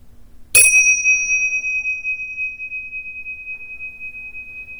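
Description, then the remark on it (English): A single meditation bell is struck once to end a meditation, ringing out bright and clear, then its pure tone lingers and slowly fades over several seconds. “And with the sound of the bell, Let the sound bring you out of the meditation and bring your focus back to the room.”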